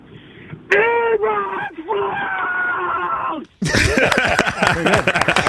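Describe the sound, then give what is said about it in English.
A Bears fan calling the Rich Eisen Show bellows the word Eberflus at full volume for about three seconds, his voice thin and phone-like, followed by a burst of excited voices and commotion. “We've been asking all Bears fans to just scream the word Eberflus at the top of their lungs and see how it makes them feel.”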